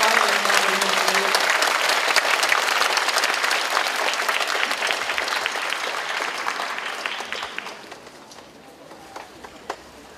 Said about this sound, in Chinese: 我们用热烈的掌声